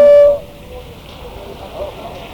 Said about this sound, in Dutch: We lopen nu de Prinsengracht op, waar op dit moment het verkeer doorrijdt en even begeleid wordt door een motorpolitieagent.